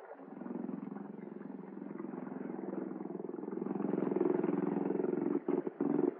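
A motorboat tender's engine drones with a steady, low, rumbling throb that slowly swells louder as it approaches to take passengers out to a boat, then cuts out briefly a few times at the end.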